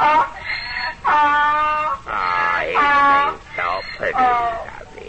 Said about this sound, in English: Ha, ha, ha, now don't go away. Till I make this donkey bray.